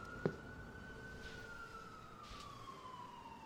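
A police siren wails from police cars outside in front of the house, muffled, holding a steady tone that slowly sinks in pitch, with a brief knock near the start and no voices.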